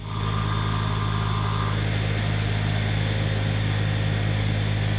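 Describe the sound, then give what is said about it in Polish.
Steady, loud engine drone of heavy machinery at a railway modernization construction site in Poland (Chybie–Nędza–Turze and Toszek Północ–Stare Koźle sections), with strong low harmonic hum running throughout and a brief higher whine early on, no voices. “Posłuchaj, co dzieje się na budowie.”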